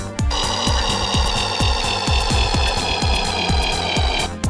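A video game cruiser spaceship sound effect, from the first enemy ship met in every level: a loud, buzzy electronic drone rich in high tones, driven by a rapid, steady throb of low pulses, about four per second, lasting around four seconds.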